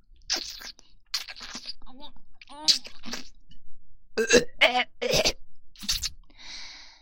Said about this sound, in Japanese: すいません。ゲップが出てしまいました。奥に入れすぎたら苦しくて。